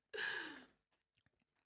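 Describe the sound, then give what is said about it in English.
A loud crunch as a crisp bit of crust of air-fryer prawn toast made with rice sourdough is bitten, followed by a few faint, scattered chewing clicks over the next second. “I think I've got a crunchy bit of crust.”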